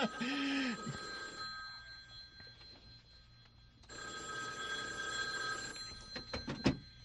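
A telephone bell at the Bailey Brothers office rings in two bursts of bright, rapid metallic trilling separated by a pause, with scattered background sounds and a few sharp knocks near the end.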